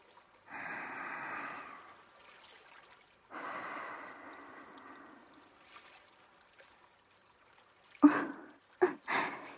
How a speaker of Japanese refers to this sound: まずは目を閉じて、深呼吸しながら波の音に耳を澄ましましょう。